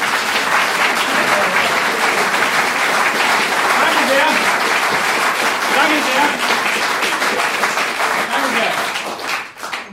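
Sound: audience clapping applause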